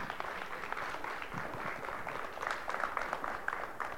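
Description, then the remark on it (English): An audience claps their hands for the Lord at the close of an evening's teaching, a steady, dense wash of applause, many overlapping claps blending into a continuous crackle at an even, moderate loudness throughout. “Come on, somebody get a Lord a hand clap tonight.”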